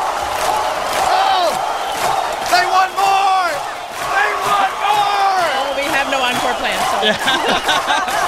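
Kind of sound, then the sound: crowd, crowd chanting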